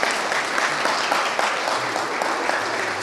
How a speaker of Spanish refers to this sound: Un aplauso para ellos, por favor.